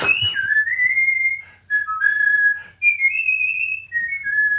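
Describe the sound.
A man whistles the tune Dixie on the spot when asked, clear sustained notes sliding between pitches in several phrases with brief breaths between them, with no talking.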